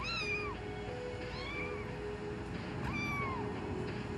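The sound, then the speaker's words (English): In a film scene, an emotional support kitten meows three times in a supermarket, high, plaintive cries spaced about 1.5 seconds apart, over a steady background hum with no talking. “In this scene, Agnes is at the supermarket with her emotional support kitten, who she's just found at the side of the road.”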